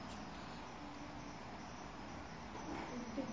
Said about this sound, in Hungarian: Most még csak kettő ciripel benne, de az egész tücsök zenekar rázendít, akkor végünk lesz.